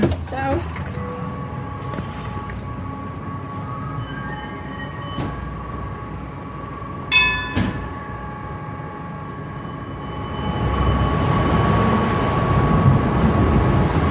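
A Bernmobil tram hums at a stop, its bell rings once with a bright clang, then the motor and wheel rumble swell as it pulls away.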